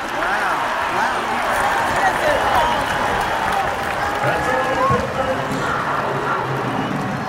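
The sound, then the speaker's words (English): A huge stadium crowd roars and cheers continuously in reaction to the video board, a dense, loud wall of voices with whistles and shouts rising out of it, plus scattered clapping, holding steady for several seconds. “And the crowd went crazy.”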